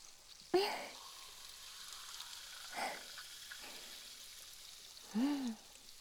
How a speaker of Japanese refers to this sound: シュワシュワ。どうですか？刺激が気持ちいいでしょう。根元からきれいになりますからね。シュワシュワ。ぎゅっと揉み込むように、シュワシュワ。